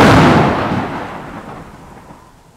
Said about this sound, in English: Crash! Boom! On Wednesday, it's stormy.